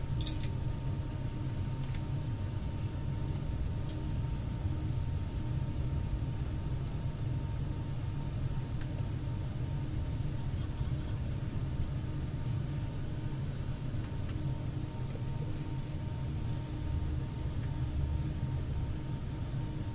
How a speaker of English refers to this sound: Stepping from the train to the platform. Now, myself, the onboard team, hope you have a pleasant and relaxing journey. London Euston, I'm arriving into.